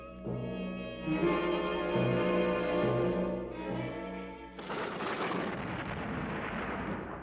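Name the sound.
thunder rumbling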